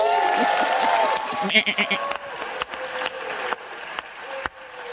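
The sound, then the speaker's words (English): In the US Senate, Democrats break into cheers and applause as a large spending bill passes on the vice president's tie-breaking vote, with whooping voices at first that fade while steady, dense clapping continues throughout, punctuated by a few sharper individual claps. “The Democrats are cheering this supposed victory of passing this huge spending bill.”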